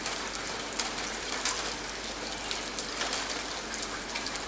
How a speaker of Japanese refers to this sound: そういうこと。雨が降ってる時は何もすることがなくて退屈。 ちょっと待って。ってよ、雨降ってんのに俺を外に出そうとしてたわけ？